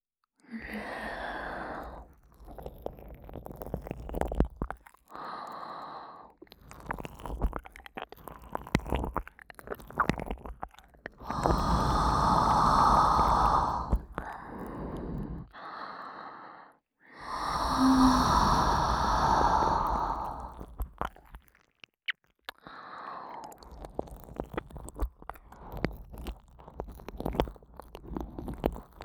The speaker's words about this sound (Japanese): 舐められてるこっちの耳に意識全部向けて、吐息が来ることなんて忘れないよ。ほら。